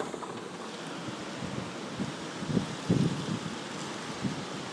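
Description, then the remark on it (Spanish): A roaring storm of wind, rain and sea, heard through an opened window with the wind blowing from the side, blends into one dense, steady noise where sea, wind and rain cannot be told apart, with low gusts buffeting close to the microphone; no voices are heard. “o sea, te tira el viento, es abrir la ventana y que oigáis el ruido espectacular, donde ya no se sabe lo que es mar, lo que es viento, lo que es lluvia.”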